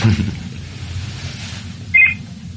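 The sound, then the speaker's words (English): A mobile phone gives a single short, high-pitched electronic chirp near the end, cutting clearly through a steady low rumbling background with no one talking. “Oh, my phone, hang on.”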